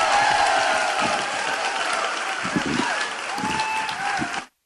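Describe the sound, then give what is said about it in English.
An audience at the Wells Fargo Pavilion applauds steadily and loudly at a Travel Guys radio event with Sports Leisure Vacations, with laughter and scattered voices mixed into the dense clapping, holding for several seconds before cutting off abruptly. “Well, I think you can tell by the applause and the laughter there,”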